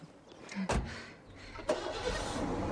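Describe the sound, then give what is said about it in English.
A couple of sharp clunks, then a pickup truck engine turns over and settles into a steady low rumble that builds slightly as it begins to pull away. “He gets into the pickup.”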